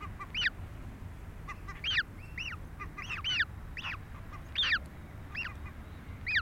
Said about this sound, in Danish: Jeg vil ikke mærke til lydene omkring, der er vinden, mågerne.